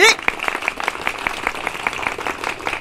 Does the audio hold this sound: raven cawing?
no